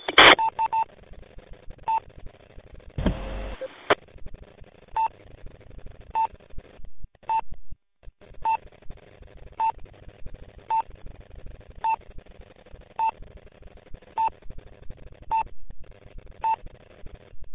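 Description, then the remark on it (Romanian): Telephone keypad tones beep in a long, steady series of short, evenly spaced pulses over a thin, phone-line sound, with a brief burst of noise near the start. “Te sun pe telefon imediat.”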